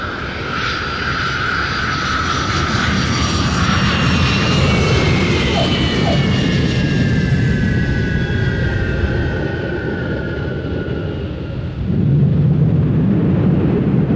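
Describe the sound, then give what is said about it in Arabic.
Airplane engines roar steadily throughout a passenger flight's approach to landing, with high whining tones slowly sliding downward and a deeper rumble swelling louder near the end. No one speaks. “يرجى من السادة الركاب ربط الأحزمة والامتناع عن التدخين وذلك استعدادا للهبوط، وشكرا.”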